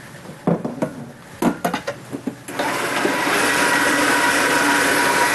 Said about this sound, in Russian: И вот так вот потихоньку надо это мясо срезать, да, с костей? Ну да. А потом с ним что делать? Прокручивать через мясорубку.